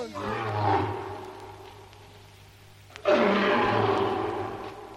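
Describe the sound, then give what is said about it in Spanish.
A lion roars twice, loud: a deep, rumbling roar that trails off, then after a short pause a second powerful roar bursts in and holds strong to the end. “el auténtico rey es el león. ¡Lion!”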